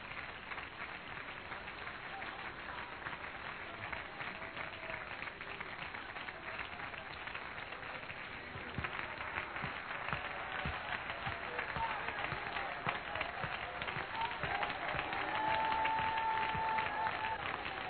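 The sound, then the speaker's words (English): A large crowd applauds for the Lord, a dense wash of many hands clapping that swells louder midway and keeps going, with a faint sustained tone near the end. “Would you clap one more time for the Lord?”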